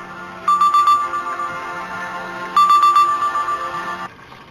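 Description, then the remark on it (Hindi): A phone ringtone for an incoming call plays in two repeating bursts of bright electronic tones over a low hum, loud, with no one speaking. “मोहम्मद का फोन है। अच्छा जवाब दो।”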